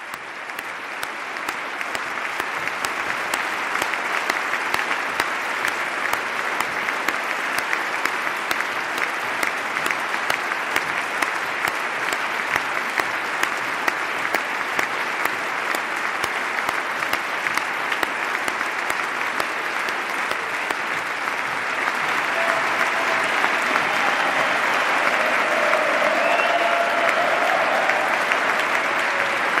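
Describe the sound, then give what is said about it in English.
Sustained, dense applause from members of the House and Senate and other dignitaries in the hall during the President's State of the Union address, honouring Sergeant Remsburg, an Afghanistan war veteran injured by a roadside bomb, standing in the gallery; steady and loud for the full half minute with no voices breaking through. “By far the most prolonged applause of this State of the Union address.”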